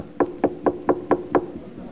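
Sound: knocking on a door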